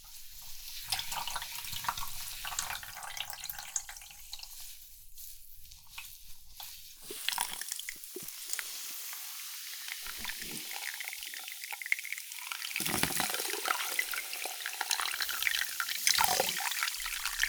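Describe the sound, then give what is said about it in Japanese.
Steady hiss of carbonated water running and fizzing during a carbonated-water scalp shampoo, a bright bubbly spray that shifts in intensity, with wet splashing bursts near the end and no talking. “では、続いて炭酸シャンプーをさせていただきますね。”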